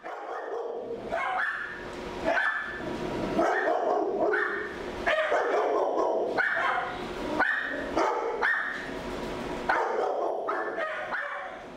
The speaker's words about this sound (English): About 20 dogs, curious about my microphone, tell me how it is inside the kennels of Stanton Animal Hospital on Greenacres Road in Fayetteville. Though they are various sizes and colors, the animals all appear to be past the puppy stage,